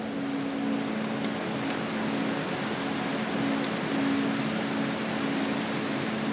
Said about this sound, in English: Then, as if some serendipitous moment had occurred, the heavens had opened and the rain had poured.